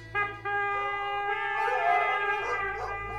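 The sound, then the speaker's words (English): A pack of hunting hounds, just released by hunters, howls together in long, sustained, wavering cries, with some baying mixed in. The sound is steady and fairly loud for about three seconds, with no talking. “The men sounded their bugles and released the dogs.”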